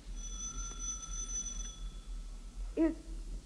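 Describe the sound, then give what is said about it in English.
A policeman rings an apartment building doorbell marked Superintendent: it rings once with a steady, bright electric tone lasting nearly two seconds, then cuts off, followed by a brief faint chirp over a low background hum. “He stops, reads a stenciled inscription on it, and then angrily enters an apartment building and rings a doorbell marked Superintendent.”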